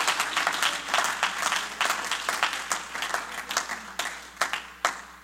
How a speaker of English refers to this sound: Oh, you ought to clap your hands tonight.